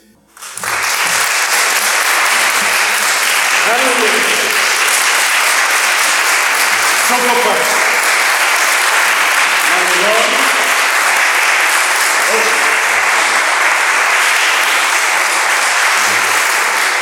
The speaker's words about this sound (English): So applaud as you go, or one at a time, whatever you like. As the spirit moves you.